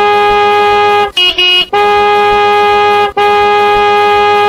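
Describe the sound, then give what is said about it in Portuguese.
A car horn honks loudly in long, steady blasts that run almost without pause, broken by two brief gaps, with a shorter, slightly different toot sounding in the first break. Horns are honked by passers-by at 8 in the morning. “Todo cabo que passar vai dar uma buzinada.”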